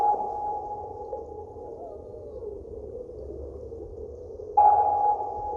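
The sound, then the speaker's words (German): Underwater sonar tones from a fruit-crate-sized echo sounder anchored on the seabed and cabled to a surface buoy, covering a radius of about 80 metres: a steady, ringing electronic note hums over a low rumble, then a louder, brighter ping cuts in near the end and holds. No voices. “Die Schallwellen des Sonars kontrollieren insgesamt einen Radius von gut 80 Metern.”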